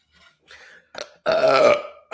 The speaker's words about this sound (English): that burp was for you. Oh, yes. If I had gas, trust me, that one would be for the bullshit you pump.